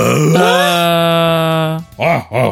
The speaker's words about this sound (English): More grunting and desperate breathing. All right, I need grunts from everyone.